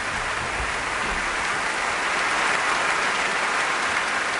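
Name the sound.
audience cheering and applause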